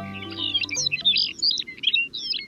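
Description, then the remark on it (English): A Lapland longspur sings a rapid, jumbled warbling song of bright, high tinkling notes, continuous, with a low hum underneath at the start, on Arctic tundra on a June day. “A Lapland longspur sings its gentle song.”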